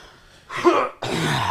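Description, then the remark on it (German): Two harsh, raspy coughs in quick succession, loud, the second running straight on from the first like the start of a coughing fit, with no talking. “Ich hier gerade eine Hustenattacke sterbe.”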